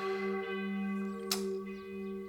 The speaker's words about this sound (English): So that kind of warping of the sound, that wow, wow, that's, you know, a Doppler effect because the bell is swinging while it's ringing.